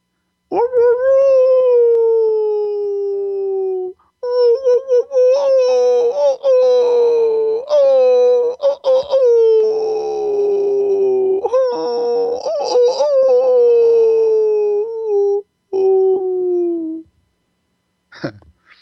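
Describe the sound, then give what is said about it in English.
A person's voice imitates a wolf as a wailing sound, drawing out long, wavering, wailing howls with sliding pitch, loud, broken by a few brief pauses. “And one of the easiest ways to do a wailing sound is to do the sound of a wolf.”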